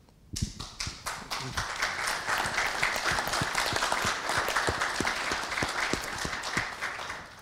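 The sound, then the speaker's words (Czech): An audience bursts into sustained applause, many hands clapping in a dense, steady patter with some sharp individual claps standing out, holding strong throughout with no talking. “Tady tenhle ten potlesk byl jasně směřovaný, ale já bych poprosil ještě jeden, protože bych rád poděkoval všem panelistům.”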